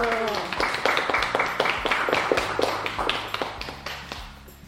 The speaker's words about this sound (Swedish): Ska vi ge sommaren en applåd? Ja!